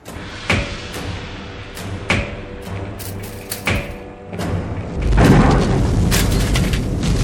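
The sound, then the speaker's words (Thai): A gas tank being used to fill balloons explodes: several sharp metallic knocks ring out as the tank is tapped, then a loud blast gives way to a sustained roaring rush of noise that fills the last two seconds. “โอ้ยเฮ้ยถังแก๊สระเบิดโอ้”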